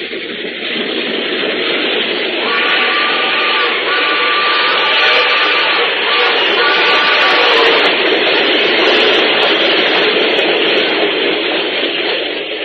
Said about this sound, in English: Yeah, that's again. That's it again, Sheriff. That train is coming again.